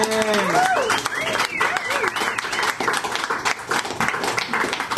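Steady, dense applause from an audience at a reading in a bookshop fills the whole stretch, with cheers and whoops rising above the clapping near the start.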